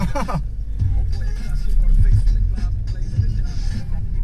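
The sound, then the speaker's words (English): Steady low engine rumble and road noise fill a car cabin throughout, with muffled voices murmuring faintly over the constant drone. “This is the second time I've been in this car.”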